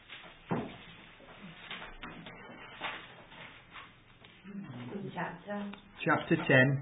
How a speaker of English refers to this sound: Yep. It's great to hear the pages rustling. What I love to hear.